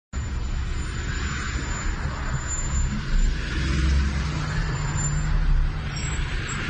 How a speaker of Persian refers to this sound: بلوار حسینی الهاشمی، شترهایی که معلوم نیست از کجا اومدن و ترافیک شدید ایجاد کردن و این تعداد شتر و درختهایی که سهم شترها میشه